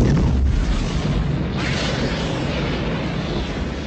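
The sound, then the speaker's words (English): A car explosion from the 1993 comedy Groundhog Day, after a stolen pickup truck speeds off a cliff: a loud, dense roaring blast that rumbles continuously for several seconds and only slowly eases off, with no voices. “Why'd the car explode, she asks.”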